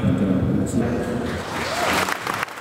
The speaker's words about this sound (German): Minutenlanger Beifall, die Gläubigen sind aus dem Häuschen.